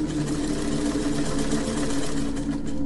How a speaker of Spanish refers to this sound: Volvió en sí y le puso atención al sonido. No tardó nada en descubrir que se trataba del pedal de la máquina de coser.